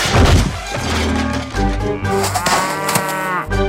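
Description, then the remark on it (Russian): A loud, heavy crash rumbles and clatters as a cow falls off a roof and drags its owner through the chimney, mixed with the cow's long, distressed mooing throughout, all forceful with no talking. “Вдруг с крыши донесся грохот.”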